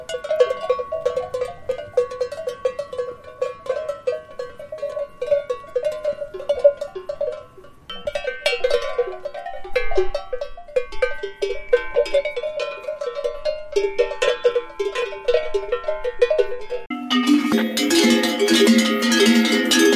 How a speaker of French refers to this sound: Alors on l'appelle ou le picon ou le clavela. On l'appelle picon à part jusqu'à la taille à peu près de 11,5 cm de hauteur. On va l'appeler picon pour le différencier du gros clavela qui est signification de montagne. Même cloche, mais montagne.